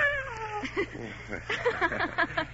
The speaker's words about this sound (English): And this is our cat, Miss Jones.